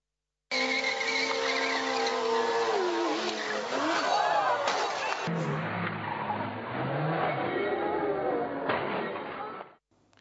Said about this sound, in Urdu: ایک motor cycle bike والے نے کوئی کھیل کر رہے تھے, اب انہیں کیا پتا تھا کہ یہ کھیل ان کو اس قدر تکلیفوں میں ڈال دے گا. آئیے دیکھتے ہیں موٹر سائیکل سوار کھیلتے کھیلتے کس نتیجے پر پہنچا.